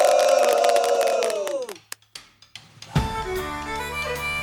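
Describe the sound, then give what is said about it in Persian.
A loud crowd of spectators at a competition roars and cheers for the participants, then fades out abruptly, leaving a few sharp knocks in near silence. A big burst of cheering and shouting then erupts again and holds steady. “یه تعداد خیلی محدودی هم بقیه شرکت کننده ها رو تشویق میکردن که کاملا تابلو بود فامیلای خودشون.”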